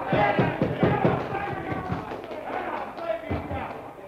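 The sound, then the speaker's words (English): A Boston bar crowd watching the seventh game of the World Series, Yankees versus the Braves, on television erupts in a loud uproar of overlapping shouts and cheers, with scattered thumps, the roar peaking early and then settling into a dense, noisy babble. “That uproar came from right the other end of the bar, from the crowd watching television.”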